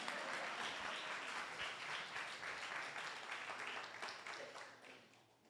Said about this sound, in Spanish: Un aplauso al actor y a mí también.